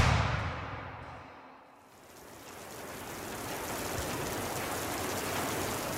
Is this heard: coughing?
no